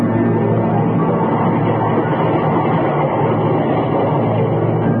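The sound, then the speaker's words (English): A train rumbles steadily and loudly at a railway station, a continuous dense roar with a low mechanical hum underneath, unbroken for the whole stretch and with no voices. “a life lived in the commuter section of a railway station.”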